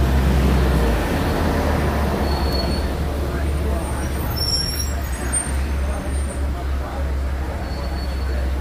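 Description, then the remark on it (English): A safari truck's engine idles with a steady, deep rumble, continuous throughout, with a faint hiss of air and some muffled background noise on top, as the truck waits for the warden's all clear to enter the Harambe Wildlife Reserve. “If something does happen to drop over the side of my truck, I cannot stop to retrieve it.”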